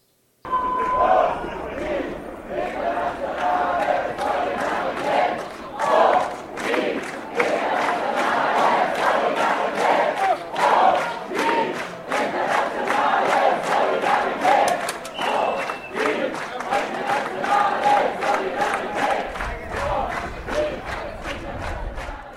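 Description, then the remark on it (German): A large crowd of about 1000 people gathers with colourful placards and flags in front of the train station in Heilbronn, Germany, for a May Day demonstration, with police barriers nearby. Many overlapping voices make a dense, continuous roar, with shouts and chants rising above the steady murmur throughout. “Ab 10.30 Uhr sammeln sich direkt vor dem Bahnhof immer mehr Menschen mit bunten Plakaten und Fahnen.”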